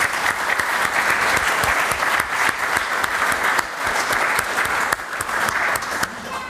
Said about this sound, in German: Und an dieser Stelle sollte eigentlich der Applaus kommen, der eben schon kam. Sie dürfen aber noch mal.